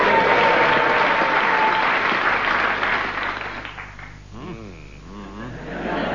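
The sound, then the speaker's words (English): The audience of a guessing-game panel show breaks into dense, steady applause that gradually thins out, and as the clapping fades a single voice begins speaking over the last scattered claps. “should tell the audience you can applaud if they're getting warm.”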